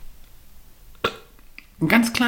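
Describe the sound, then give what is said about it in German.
A small, brief burp sounds, followed a moment later by a louder, voiced throaty sound. “Ich muss, glaube ich, rülpsen.”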